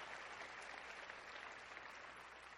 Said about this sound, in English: 3,000 young people gathered here for this retreat. Amen. Give the Lord a clap offering right now.